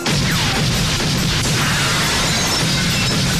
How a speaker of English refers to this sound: The chandelier crashes to the floor.